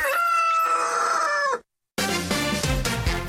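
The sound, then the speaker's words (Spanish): A rooster crows once, loud, its long harmonic call sustained for over a second before cutting off; after a short silence, busy music with percussion kicks in. “Una vez que ya le jalan el pescuezo al gallo, Palomilla, pues bueno, con esa manera arrancamos.”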